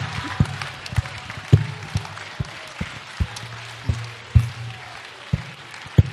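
Thin, scattered audience applause: a dozen or so sharp individual claps at uneven intervals over a low steady hum, with no voices.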